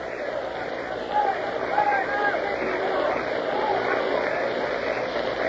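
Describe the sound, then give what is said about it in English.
A large ballpark crowd at a baseball game lets out a few drawn-out groaning "oh" sounds after a pitch is called ball three, inside, making the count 3-2, over a steady roar of many voices, with no clear single speaker. “The crowd said, oh, a couple of O's. 3-2. You may hear them O-ing.”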